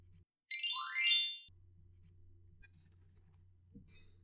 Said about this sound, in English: When you hear the chime, turn the page.